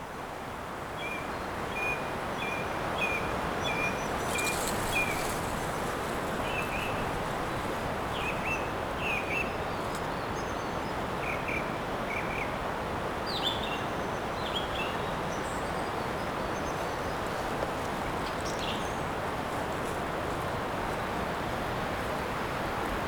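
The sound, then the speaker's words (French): Outdoor forest ambience as bad weather approaches and the wind turns northwest, dominated by a steady roar of wind through trees. Small birds chirp and trill intermittently over it, some calls repeated in quick short series. “Les oiseaux, sentinelles de la forêt, du vent et des nuages.”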